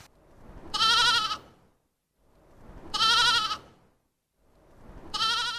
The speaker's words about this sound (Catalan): Clar que sí, era l'ovella.